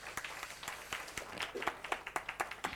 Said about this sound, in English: Just applaud these guys as they come on up as fast as you can.